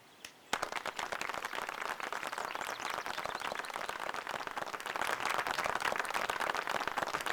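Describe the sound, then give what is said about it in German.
Loud, sustained audience applause for the heroes bursts in suddenly after a brief quiet moment, many hands clapping in a dense, crackling wash that holds steady and swells slightly toward the end. “Und bitte Sie alle um einen kräftigen Applaus für unsere Helden.”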